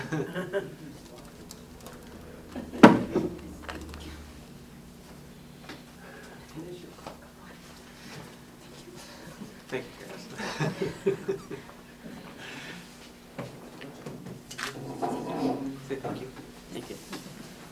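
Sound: door being pushed shut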